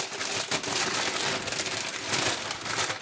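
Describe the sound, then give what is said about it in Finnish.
Continuous crinkling and rustling of a paper package holding a bag of mussels being unwrapped in a sink, fairly loud, with irregular crackly bursts throughout and no voices. “Ai, ihana tää rapina ja täältä tuli tää mun simpukkapussi esille.”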